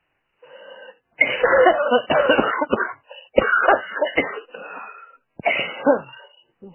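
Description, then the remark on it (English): Loud sneezes come in a quick series of about three harsh bursts, preceded by a soft intake of breath, with no talking in between; the sneezes come from allergies. “Bless you.”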